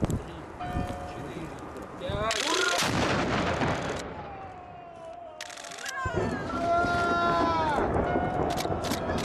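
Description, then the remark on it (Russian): A single loud cannon blast, the noon shot from the Peter and Paul Fortress in Saint Petersburg marking the start of a festival on the Neva ice, booms out, followed by a rolling echo and the murmur of a crowd, with bells ringing faintly in the background. “Полуденный выстрел возвестил начало праздника.”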